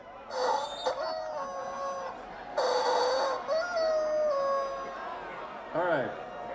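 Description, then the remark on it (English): A screaming rubber chicken toy lets out about four loud, high-pitched squawks, each a strained, nasal wail. The last one wobbles up and down in pitch. “This is a Screaming Chicken, just so you know.”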